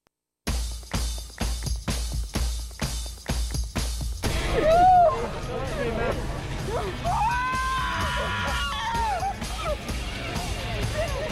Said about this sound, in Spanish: Esos gritos de alegría son de Annemiek van Vleuten, corredora del Movistar Team, que este año está haciendo historia.